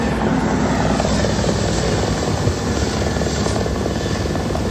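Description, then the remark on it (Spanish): A firefighting helicopter's rotor thumps steadily overhead as it takes water from a river to drop on a fire, a loud, continuous chopping drone with engine whine that fills the whole clip without pause. No voices are heard. “Los agentes de la UME estaban sobre el terreno y un helicóptero cogía agua del río y la echaba sobre ese fuego para intentar ayudar precisamente a estos militares de la UME.”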